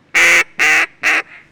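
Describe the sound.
A hand-held duck call, a small barrel with a mouthpiece and reed, blows three loud, raspy quacks in a steady, evenly spaced cadence, with no talking, the last one trailing off into a faint tail.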